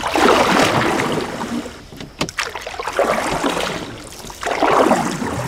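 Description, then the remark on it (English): Rhythmic paddle strokes of a canoe paddling upstream on Roundout Creek in High Falls, New York, churn and splash through the water, broad washes of sound swelling and fading about every two seconds, with a sharp knock of the paddle against the canoe midway. “We paddle upstream, away from the teenage boys diving from the rocks, then toward the spot that many say is the best part of Roundout Creek.”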